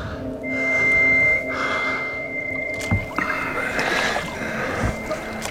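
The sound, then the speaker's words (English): A ragged youth rowing a small boat with a single oar: steady water wash and sloshing, a few distinct splashing strokes, and a thin sustained creak, moderately loud with no voices. “Many days, possibly weeks later, tired and hungry, in a small boat with a single oar, the ragged youth is being carried towards an unimaginable vista.”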